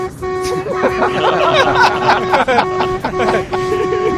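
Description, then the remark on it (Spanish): A truck horn, sounded by people riding in the truck, blares in long, steady, loud blasts, cutting off briefly a few times before sounding again, over a noisy crowd of shouting, cheering voices. “Van en el camión ahí y dándole al claxon.”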